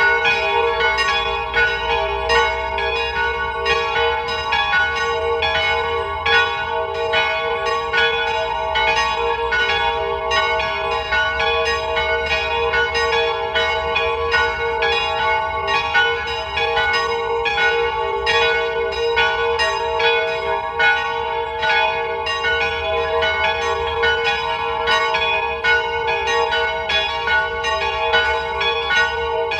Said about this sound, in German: Es ist 12 Uhr. Sie hören die Glocken der Wallfahrtskirche St. Nikolaus bei Ebbs in Tirol.